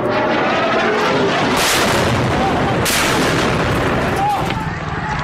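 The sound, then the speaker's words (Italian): Aerial bombing in Syria, an aircraft flying over a school bombing the neighbouring district: a loud, dense roar of blasts rolls throughout, with two sharp, crackling explosions bursting out around the middle and heavy rumbling filling the gaps. “un aereo che sorvola la scuola inizia a bombardare il quartiere confinante.”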